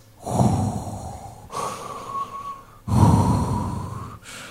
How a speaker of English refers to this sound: And I plunged into the shark cage. And for a moment, a minute, there's just bubbles and this red cloud of chum around me. And then all I could hear are my deep Darth Vader-y breaths.